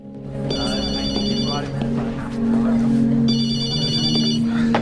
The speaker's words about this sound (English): At the police station, Mac's mobile phone rings.